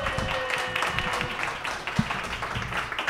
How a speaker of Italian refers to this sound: L'applauso che devono sentire in radio è un applauso finto, ipocrita, bello, esatto. Sonoro.